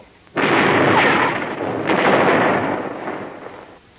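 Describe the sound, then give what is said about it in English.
A ship's cannon broadside erupts in a sudden loud blast, swelling into a sustained rumbling roar with a second heavy volley midway before slowly fading. No voices are heard. “Give him another broadside.”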